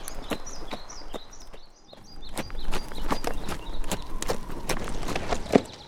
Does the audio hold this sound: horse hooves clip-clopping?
yes